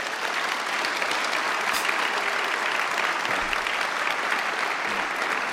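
A large audience at a Christian worship gathering applauds steadily, a dense wash of many hands clapping at once that holds its loudness for several seconds without a break.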